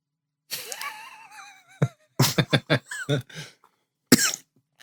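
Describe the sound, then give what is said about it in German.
A loud coughing fit: a strained, wheezy breath is followed by a rapid cluster of harsh coughs, a brief pause, then one final cough. “Du einen Hustenanfall gekriegt.”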